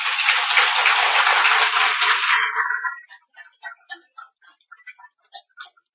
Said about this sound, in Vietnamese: Nếu bà con nào cảm thấy rằng là mình không khổ vì thiếu ánh sáng, vì ta có được cặp mắt quán chiếu, thì hãy dành một tràng vỗ tay thật to.